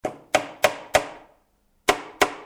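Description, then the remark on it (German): Six sharp, hard knocks of a small hammer on a closed wooden box of hard wood, in a garage, as people try to open it. Four knocks come in quick succession, then a pause, then two more, each with a short ringing decay and no voices. “Sie schlugen auf die Kiste, aber sie gingen nicht auf, weil das Holz zu hart war.”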